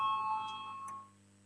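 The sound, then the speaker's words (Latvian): A soft electronic bell chime in a parliament, rung to call a vote, rings out with sustained, steady tones that hold and then fade, with faint brief accents on top; no voices are heard. “Lūdzu zvanu balsosim par 14. Satiksmes ministra Linkaita priekšlikumu.”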